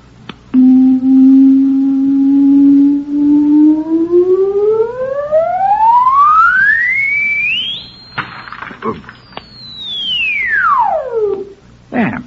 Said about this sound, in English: It produces sound waves with tremendous frequencies. It's made of, you wouldn't understand. Just call it a sound box. Now, see this hole in front of the sound box. It sends out directional sound waves. Listen.